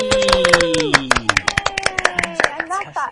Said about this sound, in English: It's a round of applause time. Yay!